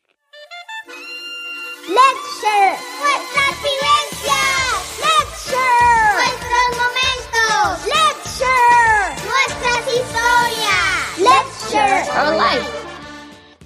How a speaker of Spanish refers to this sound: Oh yeah. Here comes my favorite jingle.